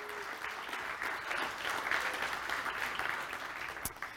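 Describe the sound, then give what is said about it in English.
A church audience applauds the staff steadily, a dense wash of many hands clapping at an even, moderately loud level for the whole stretch, with no voices standing out. “And why don't we give them a round of applause for all the hard work.”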